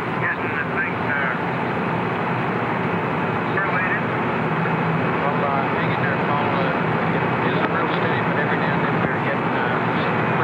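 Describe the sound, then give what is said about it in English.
A loud, steady roar of helicopters flying in the area of a recovery ship during a Skylab spacecraft recovery fills the whole stretch, a dense engine-and-rotor drone with faint muffled voices mixed underneath. “There are helicopters in the area, and if the plan is still the same, some of the paradivers would go down to the spacecraft and make sure everything was all right.”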